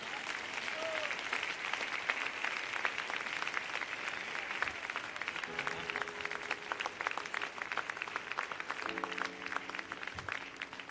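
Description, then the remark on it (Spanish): A church audience bursts into sustained, loud applause for the Lord, dense clapping filling the whole stretch, with faint sustained musical tones rising underneath partway through and again near the end. “En el nombre de Jesús, alguien deme un fuerte aplauso al Señor.”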